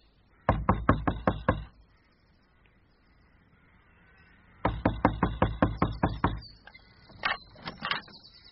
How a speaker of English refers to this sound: But you can be sure that by 10 o'clock I was knocking at the door of that lowly habitation.